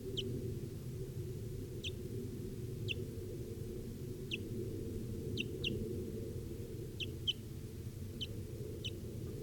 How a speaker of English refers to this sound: Recording of the wild bird here now. It's at 10:09 a.m. Wild. Actually, it's a pair, I believe.